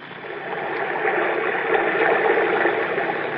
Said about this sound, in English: When I press my ear against the wall, I can hear the water running like it was a river under the ground.